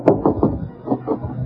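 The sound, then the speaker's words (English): Knocking on Bing Crosby's hotel room door: three firm raps, a short pause, then two more, fairly muffled, with no one speaking. “There's an autograph picture of Bill Ives hanging on the door. Well, I'll knock.”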